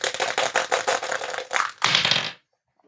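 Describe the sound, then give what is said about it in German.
A twenty-sided die clatters across a hard tabletop, a quick run of sharp ticks and rattles that ends in a final tumble before it settles into silence. No one speaks. “Achso, ich habe den W20-Würfel wieder hier.”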